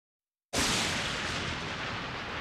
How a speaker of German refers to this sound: Dunkle Wolken, Donner. Grelle Blitze zucken über den Himmel.